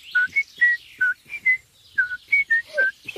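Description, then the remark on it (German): A bright, cheerful whistled tune, a favourite melody whistled for joy, of about a dozen short, clear notes hopping up and down in pitch, fairly loud, with no talking. “pfeift sogar vor Freude seine Lieblingsmelodie.”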